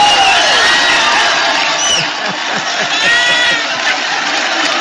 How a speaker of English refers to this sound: Nancy Pelosi thinks it's very funny. They're all hugging and clapping. There they go.